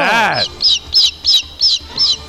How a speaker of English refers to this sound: How about that? It's a baby eagle. It's a baby eagle. You hear that? It's beautiful.